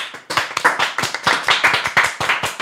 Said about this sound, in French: Auto-applaudissement.